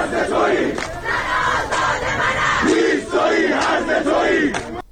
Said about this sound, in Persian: در تصاویر منتشره سر دادن شعار و شلیک گاز اشکاور و تیراندازی به سوی معترضان دیده می‌شود.